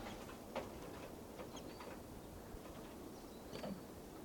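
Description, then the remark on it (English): A few faint, short high-pitched bird chirps come and go over a steady background hiss, with no one talking. “And birds are here.”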